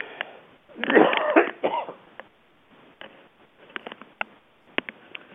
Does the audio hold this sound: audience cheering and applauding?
no